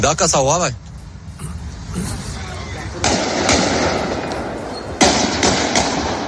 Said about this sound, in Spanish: Aquí en España, en Europa, la última noticia era un tiroteo en Bruselas, creo que tenemos el sonido, tiroteo previo a un partido entre Suecia y Bélgica, que ha terminado en tragedia.